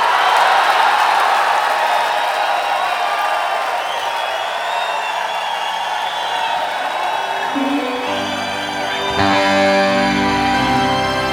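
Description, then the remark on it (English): A large Atlanta audience applauds and cheers for a stage performer in a steady, dense roar with scattered whoops, and after about eight seconds music begins playing underneath the continuing crowd noise. “Let's give a big Atlanta round of applause to the one, the only”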